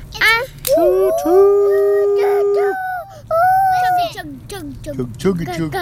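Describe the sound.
A child imitates a train passing through Carlton with two long, steady, high-pitched wails like a whistle, the first held for over a second, followed by a few quick bursts of talk.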